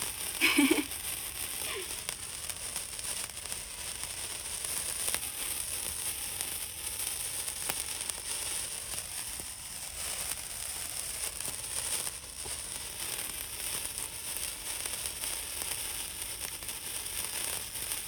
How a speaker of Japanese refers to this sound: やっぱこの夜の暗いのに花火のパチパチってめちゃめちゃ映えますよね。